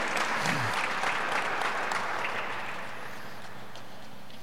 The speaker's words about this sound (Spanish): ¿Alguien puede aplaudir a su Señor o a eso no le aplauden? A la obediencia no, ¿eh? A las emociones sí, pero a la obediencia no.